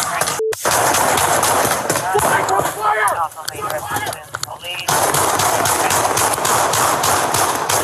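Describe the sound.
Loud, rapid gunshots fire in a dense, continuous volley close by, pausing briefly while a voice shouts, then the barrage resumes just as intensely.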